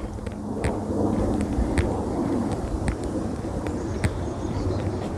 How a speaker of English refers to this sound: And this is the same windstorm down here that he's gotten up there. And it is a cold wind. Had I known how cold a wind it was, I might have put on my windbreaker,